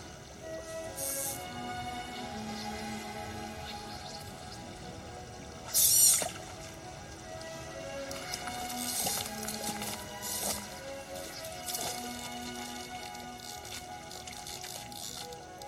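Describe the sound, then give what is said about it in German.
River water splashes and drips in irregular bursts during fly fishing in a river, with one sharper, louder splash partway through, over a steady tonal hum. A scene from the film 'In der Mitte entspringt ein Fluss' with Brad Pitt. No one speaks. “Hier ist mal eine Szene daraus, damit ihr wisst, was Fliegenfischen ist, falls ihr das nicht wissen solltet.”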